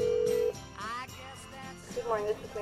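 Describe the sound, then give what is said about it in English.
A brief, steady ringback tone of a phone call placed to the number on the Groundhog Day website sounds for about half a second, then cuts off as voices come on the line, faint and slightly muffled. “I remember we called the Groundhog, like the Groundhog website, the phone number.”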